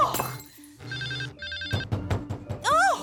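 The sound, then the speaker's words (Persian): A telephone rings in two short trilling bursts, clear, followed by a flurry of thumps and clatter and a warbling, swooping electronic tone at the end. “تلفن.”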